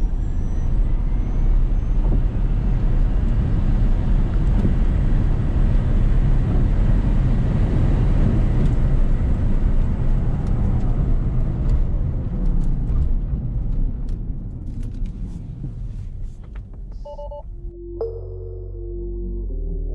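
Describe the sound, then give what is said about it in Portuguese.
A car engine roars loudly and steadily as it accelerates hard during an official timed performance test, going from 0 to 100 km/h in 2.49 seconds, its pitch climbing, then the noise eases off and fades near the end. No one speaks. “A gente vai fazer o mesmo teste que a gente faz em todo carro, pra gente ter uma boa base de parâmetro.”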